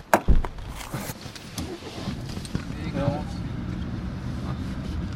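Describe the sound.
A car door clunks shut near the start, followed by shuffling movement inside the vehicle and a steady low engine hum, with faint muffled voices in the background.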